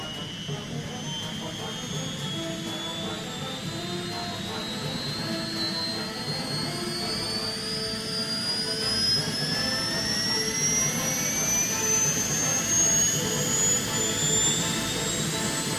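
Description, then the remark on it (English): A helicopter engine starts up: a turbine whine climbs steadily in pitch over a loud, constant mechanical roar that builds slightly as it spools up, with no voices. “First, we load this RPG onto our lovely chopper. Right then. I'm going to start it up.”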